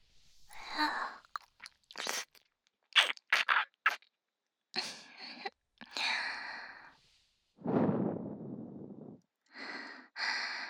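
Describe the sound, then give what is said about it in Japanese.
Wet ear-licking mouth noises and licking smacks come in irregular bursts, with soft breathy exhales between them and a longer low breath near the end, intimate and right at the ear. “耳舐め、お耳ペロペロ、好きですよね。”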